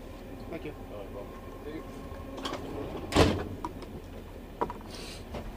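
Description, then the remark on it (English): A compartment door is yanked open by a person during a ticket check, with one quick, loud sliding rush near the middle, followed by a few smaller clicks and knocks over a steady rumbling background with faint muffled voices. “Another person ripped open the door and wanted documentation from us, but three times we get the tickets checked.”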